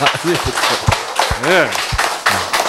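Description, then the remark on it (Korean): An audience applauds a person introduced as the NewStart champion. The clapping is a steady, dense, continuous wash of applause, with some individual sharp claps standing out and voices calling out over it. “뉴스타트의 챔피언 박수 한번.”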